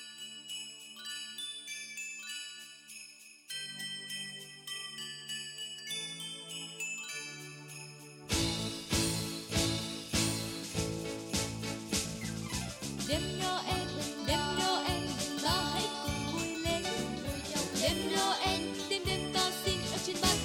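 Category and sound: jingling bells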